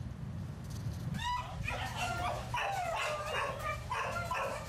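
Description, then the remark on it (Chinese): Several abandoned dogs that have been in an animal shelter in Taiwan for weeks bark and yip over one another in a dense, continuous chorus that starts after a brief low rumble and keeps going, with some higher whining notes mixed in. No one speaks. “这些狗被主人遗弃，它们已经在收容所数周了，没人想收养它们。”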